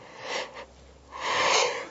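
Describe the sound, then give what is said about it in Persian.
A person yawns: a short breathy intake, a brief pause, then a longer, louder airy exhale that trails off. No one speaks. “که این خمیازه رو من تکرار میکنم دو مرتبه.”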